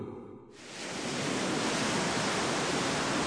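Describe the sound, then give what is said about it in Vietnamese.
A broad, steady wash of surf swells up after a brief quieter moment and then rolls on continuously as waves surge onto a flat, white sandy shore on a calm, clear day, with no voices present. “Hôm ấy trời thật bình yên và trong trèo, sóng ảo ạt tràn vào bờ cát trắng phẳng lì.”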